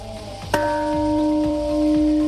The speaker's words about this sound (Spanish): ha sido esta madrugada, hace apenas unas horas, cuando en Japón han hecho sonar la llamada y simbólica campana de la paz.